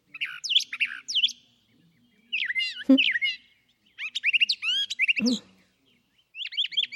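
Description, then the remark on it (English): A brown thrasher sings in bursts of varied, rich phrases, short repeated chirps and whistles separated by pauses, clear, with a couple of brief low thumps mixed in. “On the East Coast, the brown thrashers are around in kind of scrubby field types of areas.”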